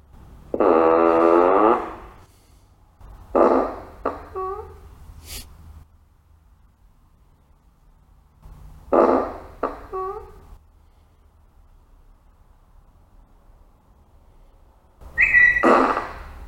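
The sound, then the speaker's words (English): A novelty fart sound effect from a car plays several times: loud, buzzy, tonal blasts, some drawn out and some sputtering in quick bursts, separated by quiet pauses with a low background rumble. “There we have the Verified Fart.”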